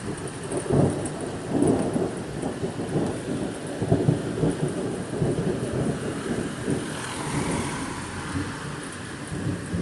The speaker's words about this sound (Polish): Jest to jedna z pierwszych burz, która w 2018 roku jest w Świnoujściu. Jeszcze poprzednia burza bodajże była w zeszłym miesiącu, ale w nocy. I wtedy spałem, ale teraz przynajmniej nie śpię, to mogę nagrać. Zaczyna się sezon burz.